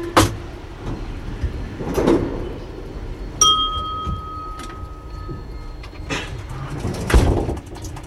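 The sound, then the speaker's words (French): Slow, uneven clicks from the tachometer inside a metro train cab tick about once every second or so over a steady rumbling, with a thin high electronic tone sounding for a couple of seconds midway. “Qu'est-ce qu'on entend, cette forme de tic-tac? C'est quoi? C'est le tacro, tachymètre.”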